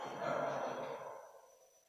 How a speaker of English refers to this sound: Right, so congregation, I want you to gasp that I'm giving some flowers. Gasp. What a surprise. Woo, we didn't know that was coming, said the congregation.